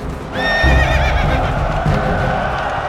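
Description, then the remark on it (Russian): A horse, mounted by the wounded Suvorov, lets out a loud, wavering whinny near the start, over a steady rumble of galloping hooves as it gallops forward, continuing to the end. No one speaks. “Суворов раненый-перераненый на коня садится. В белой рубахе на груди крестик, в руке шпага и скачет вперед.”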